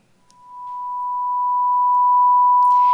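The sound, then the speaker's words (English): A steady pure tone holds at one pitch, growing gradually louder over a few seconds before a brief noisy rustle at the very end. No voices are present. “His qualities, His attributes, His thoughts and His actions as a sound wave with a single frequency, we would hear a pure tone.”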